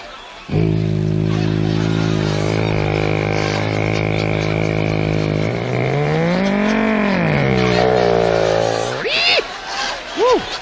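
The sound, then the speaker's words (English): A voice imitates Gene Autry's airplane coming out of a cloud in a power dive, with a steady buzzing drone that slowly swoops up and down in pitch, then climbs into a rising whine and ends with a couple of quick squealing sweeps. “Here's an imitation of Gene Autry's airplane bringing her out of a cloud in the power dive.”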